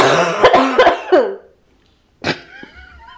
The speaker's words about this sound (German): Ich stirb hier wieder fast beim Husten.